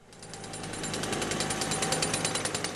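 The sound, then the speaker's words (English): A jackhammer pounds steadily at a large construction site in Carlsbad on the California coast, in cool sea air, among a couple hundred workers; a rapid, regular stutter of sharp percussive blows, loud and continuous throughout, with a broad rumbling hiss underneath. “There are a couple hundred workers pounding fence posts, welding rebar, and jackhammering away in the cool sea air.”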